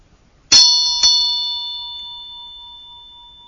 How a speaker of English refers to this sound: a second aspect of the Vajra Bell for me is that it just takes me into the blueness. So following that sound to wherever it goes to sort of takes me away from my kind of ordinary, ordinary kind of thoughts and things